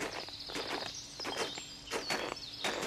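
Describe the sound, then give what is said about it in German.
Heavy, crunching footsteps of Samichlaus and Schmutzli with the donkey Benjamin plod through deep snow, a steady series of broad, gritty crunches with a faint high whistling tone running above them. No one speaks. “Das Eichhörnli Niki und das Rotbrüstli Pieps sitzen auf dem tief verschneiten Hausdach und schauen diesen beiden zu, wie sie mit dem Esel Benjamin durch den Schnee stapfen.”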